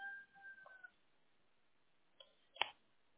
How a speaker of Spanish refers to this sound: ¿Se oye? ¿Qué es, gallo? Sí, tengo unos gallos.